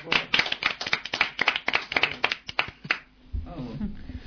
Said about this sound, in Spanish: Así que un fuerte aplauso para ella.